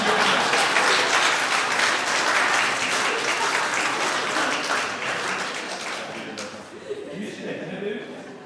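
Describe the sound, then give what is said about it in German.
An audience claps loudly after a spoken blessing, in a dense, steady burst of applause that gradually thins and fades near the end, with a few murmuring voices underneath as it dies down. “So, jetzt dürft ihr nochmal klatschen.”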